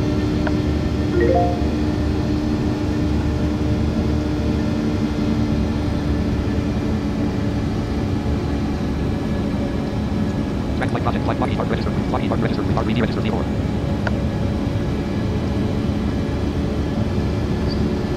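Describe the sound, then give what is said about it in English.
Loud, steady roar of aircraft engines at high speed in overcast weather, at about 16,000 feet with 114 miles to the destination. It is a constant droning hum that never lets up, with a few faint muffled sounds briefly rising over it midway. “High speeds, this weather, because it is overcast weather, you know, so it's probably doing a number on the engines a bit at this high speed.”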